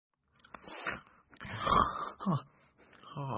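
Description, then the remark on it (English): A few wheezy, snorting snores, each a rough breathy burst, fairly loud, ending with a drawn-out nasal rasp, as a man wakes up. No one speaks. “… wakes up with a snore.”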